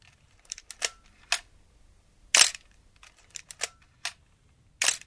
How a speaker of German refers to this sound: Ja, und wir lassen den Finger noch am Auslöser.